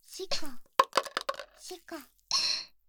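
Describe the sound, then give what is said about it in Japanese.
Dice clatter into a paper cup during a chō-han even-or-odd guessing game, with several sharp, quick knocks, followed by a short burst of rattling, while a person talks around the sounds; the dice come up 1 and 2. “それでは、このピンゾロのサイコロが紙コップに入ります。”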